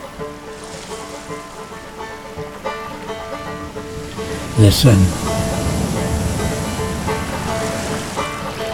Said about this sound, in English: Listen. Listen to the cold North Sea. Singing.